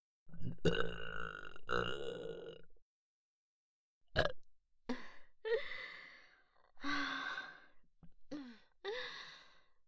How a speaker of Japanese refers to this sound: 炭酸で出してもらうよりよっぽどいいでしょ。あなたの欲望が私の中に入った証の精液ゲップ。